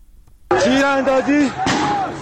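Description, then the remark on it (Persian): Two sharp gunshots crack out about a second apart during a street protest in Borujerd, Lorestan, Iran, on 23 Ordibehesht 1401, while a voice shouts loudly and continuously through them outdoors. “تیراندازی دارن تیر میزنن 23 اردیبهشت 1401 بروجرد، شهرستان بروجرد، دارن تیر میزنن.”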